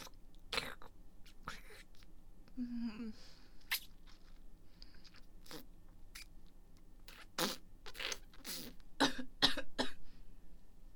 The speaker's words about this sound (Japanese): 奥に入れすぎてむせちゃった。